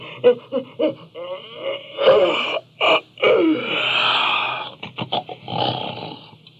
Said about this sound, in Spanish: gruñó después de un largo bostezo.